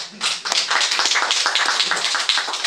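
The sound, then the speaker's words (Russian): A crowd bursts into steady applause to thank a speaker after a talk, many hands clapping at once in a dense, continuous patter that stays fairly loud throughout, with no one speaking over it. “Вот, про шаги рассказала, можно вопросы. Поблагодарим.”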